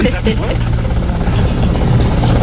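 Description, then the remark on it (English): Loud, steady rotor noise from a traffic-reporting helicopter 500 feet above the city in air of about 45 degrees: a dense low drone with a throbbing, churning texture that holds unbroken for the whole couple of seconds, with a faint voice buried beneath it. “Well, he just drives around on the traffic tracker all day long.”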